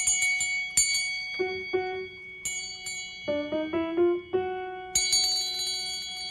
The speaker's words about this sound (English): Hear how the sound fades away? You know how it works? Well, a bell has this thing in it, a little clapper that makes it go. That's an F sharp, that bell.